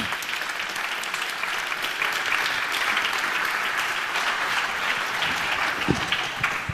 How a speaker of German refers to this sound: Bitte komm zu uns herauf mit einem Applaus.